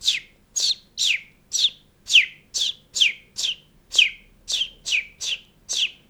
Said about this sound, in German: Nee, aber das ist keineswegs so eintönig, sondern also ein Spatz zum Beispiel, der eine Frau sucht, doch der unverpaart ist, der singt so.